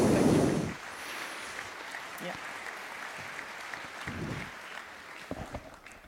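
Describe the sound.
An audience applauds steadily, a dense crackle of many hands clapping that sounds loudest at the start and then settles into a sustained, even patter with a few faint voices mixed in.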